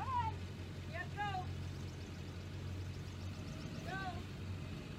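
A diesel truck engine idles steadily throughout, a constant low rumble heard from inside the truck, while a few brief, high vocal sounds rise over it now and then.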